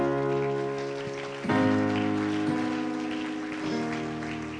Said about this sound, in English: If you believe it, clap your hands.